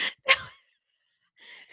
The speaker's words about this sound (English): I couldn't tell which one was you wheezing.